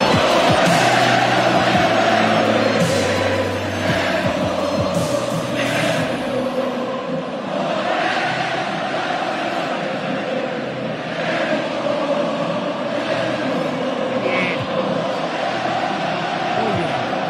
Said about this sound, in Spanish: Bueno, yo quisiera continuar esta sección deportiva con este hermosísimo audio de la ovación que se llevó Paco Memo en el Estadio Azteca. Es breve, es un momento que a mí me puso la piel chinita.